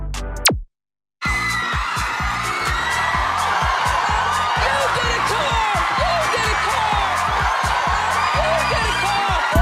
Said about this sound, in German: Die kreischende Dame ist Oprah Winfrey, Moderatorin, Produzentin und Mastermind der erfolgreichsten Talkshow in der amerikanischen Fernsehgeschichte, der Oprah Winfrey Show.